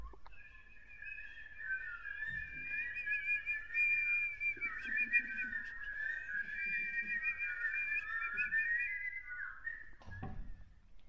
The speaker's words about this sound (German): Dafür hörte man bei Sonnenuntergang den Wind in den Zweigen rauschen. Die Vögel sangen der untergehenden Sonne hinterher.